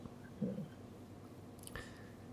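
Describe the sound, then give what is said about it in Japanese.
A single soft electronic notification chime pops up near the end, a brief bright tone that rings on faintly over low background hum, with a muffled thump earlier. “来ましたね、今なんか音が聞こえましたよ。ピョンって ピョン なんかびっくりマーク浮きましたよね。”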